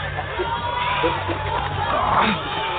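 A dense crowd of marchers in a street roars and shouts continuously, many voices blending into a steady wash of cheering and yelling with a low rumble underneath and a brief swell near the end.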